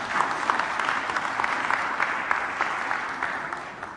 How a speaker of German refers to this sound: Sehr gut, das ist ein großer Applaus.